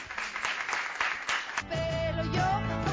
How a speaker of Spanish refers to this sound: Muchísimas gracias al público por haber estado aquí. Yo creo que nuestras invitadas merecen un aplauso, por lo menos.